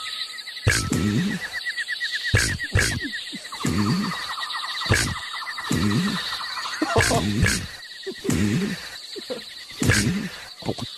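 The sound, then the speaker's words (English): Human voices imitate a late-night summer pond: repeated rhythmic frog croaks and ribbits, roughly one burst per second, with scattered trilling calls, over a steady high cricket chirring, the crickets being the only sounds not made by humans. “I said, with all those clips, it sounded like frogs and all kinds of animals at a summertime pond.”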